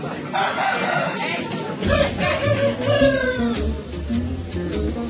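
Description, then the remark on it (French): Several roosters crow loudly over one another while hens cluck throughout, a busy, continuous farmyard chorus with a low background rumble joining partway through. “Je suis un gars qui suis débrouillé. Comme ces coqs.”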